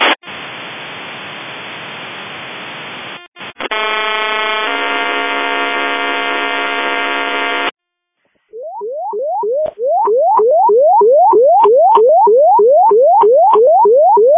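A burst of harsh radio static gives way to a steady, buzzy multi-tone alert, then a pause before a rapid warbling series of rising tone sweeps repeating in quick rhythm, loud throughout.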